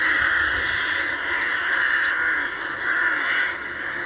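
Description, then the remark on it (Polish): A dense chorus of rooks, crows or jackdaws cawing continuously, many harsh overlapping calls forming a steady raucous din, like a large colony, with no talking. “Dlatego już prawie 10 lat temu zapadła decyzja, że te kraczące, tak zwane czarne ptaki, czyli gawrony, ale także wrony czy kawki, można legalnie przepędzać z miejsc, gdzie są problemem dla mieszkańców.”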